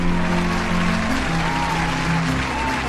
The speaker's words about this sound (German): Begrüßen Sie bitte mit einem kräftigen Applaus Christoph Strasser.